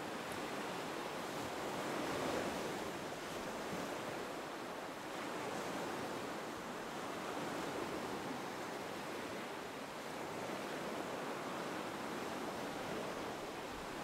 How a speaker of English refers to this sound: Do you see the beach? Do you see the waves of the ocean?